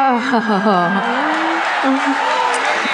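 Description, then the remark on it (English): Audience applause forms a steady, dense wash of noise for about three seconds, with loud wavering voices cheering and whooping over it. “That's real applause.”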